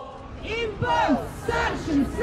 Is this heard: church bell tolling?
no